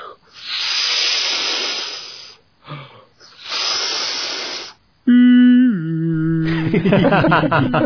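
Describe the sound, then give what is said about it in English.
In a scene from The Simpsons, a voice makes soothing ocean sounds to help someone sleep: two long, swelling shushing hisses like waves, then a loud, sustained tonal vocal sound that drops in pitch and turns into a wavering, warbling cry. “I'll just make some soothing ocean sounds for you.”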